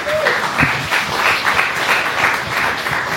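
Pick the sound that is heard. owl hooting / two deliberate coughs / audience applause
audience applause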